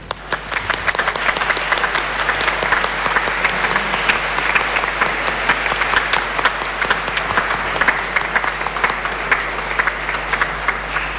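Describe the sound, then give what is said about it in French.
At a mass, an audience applauds the children's and youth team steadily, dense overlapping claps forming a continuous crackling wash that holds at an even loudness for about eleven seconds without speech. “Un grand merci à vous, nous pouvons vous applaudir.”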